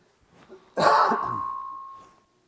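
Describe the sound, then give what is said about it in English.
A single loud cough from someone with a cough and sore throat bursts out after a brief rasp of throat clearing, its harsh edge trailing off into a fading ring. No one speaks. “Sorry, I've been battling a little bit of a cough and sore throat.”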